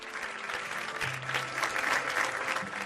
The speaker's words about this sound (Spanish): Ocurrió hace apenas unos días. Así como escuchábamos entre aplausos,